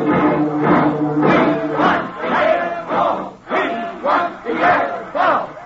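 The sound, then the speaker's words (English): A loud, dense mass of voices shouts and roars together in rising and falling surges, an angry crowd of rooters gathered in front of the Yale dressing room, with no single voice standing out. “An angry crowd of rooters is gathered in front of the Yale dressing room, and as Frank steps through the door, he's greeted by the distraught Rutgers captain.”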